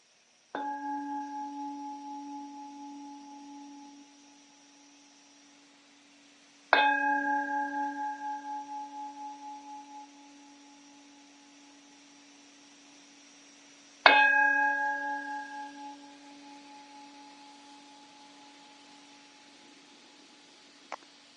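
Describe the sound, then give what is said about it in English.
A meditation bell is struck three times to open a seated compassion meditation practice, several seconds apart, each strike ringing out clear and resonant before slowly fading into quiet. No one speaks. “And I'm going to go ahead and ring the bell, and then I'll just talk us through it.”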